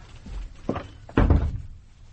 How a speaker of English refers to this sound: Would you shut the door?